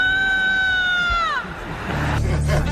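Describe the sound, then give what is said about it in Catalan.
A woman screams loudly at 22:03 at night on Carrer Valladolid in the Sants district of Barcelona, recorded on a mobile phone: a long, piercing, high-pitched cry that holds steady for over a second, then slides downward and breaks off, leaving the rumble of street traffic. “A les 22:03, al carrer Valladolid del barri de Sants de Barcelona, una dona va cridar molt fort. Procedim a sentir el crit.”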